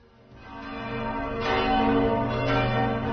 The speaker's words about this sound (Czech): Zvona Saborne crkve oglasila su se malo pre 9 i najavila ustoličenje 46. srpskog patrijarha.